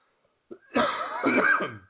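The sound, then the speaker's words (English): A single loud cough with a rough, raspy burst that drags on for over a second, heard on its own without any talking. “Excuse me, cough button, hit it.”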